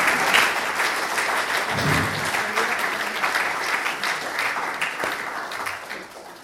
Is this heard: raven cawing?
no